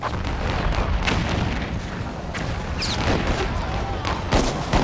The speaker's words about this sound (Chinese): 这一炮是开战的信号，查尔斯顿港口周围的所有南方邦联炮舰纷纷投入战斗，炮弹好像雨点一样飞向萨姆特堡。隆隆的炮声惊醒了查尔斯顿睡梦中的居民，他们飞奔到港口，看着呼啸的炮弹划破夜空，欢呼雀跃。